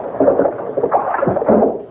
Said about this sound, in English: Now, I'm going to open this window. The salt air will make you speak like a top. The sound of the waves will lull you.